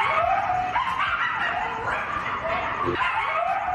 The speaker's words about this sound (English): All right, this is what coyotes sound like at night when they are all together and they're howling, and it's frightening.